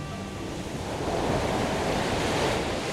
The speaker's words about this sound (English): It's a lovely day along the California coast near Big Sur. A steady, cooling breeze from the ocean pushes a strong updraft along the seaside cliffs.